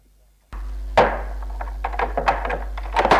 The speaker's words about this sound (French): Il referme la porte.